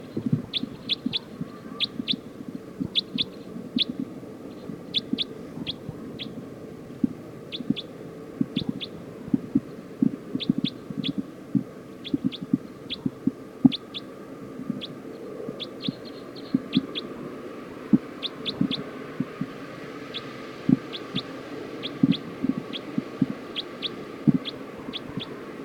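Birds call from the trees with short, high chirps, often in quick pairs or clusters, repeating steadily throughout over a constant low rumble; nobody speaks.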